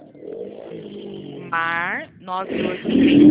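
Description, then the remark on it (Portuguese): A motorcycle engine drones and then roars by loudly, its pitch climbing briefly before fading, while a person speaks over the noise. “Você pode falar, responder aqui para mim, que passou uma moto aqui, não entendi.”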